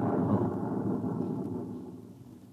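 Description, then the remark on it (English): A deep, muffled rumble from a generator motor explosion about 3 miles away rolls through 15 feet of concrete, heavy in the low end and slowly fading over a couple of seconds, with no voices present. “You see, sir, it takes a while for the vibrations of an explosion to travel 3 miles and then reach through 15 feet of concrete.”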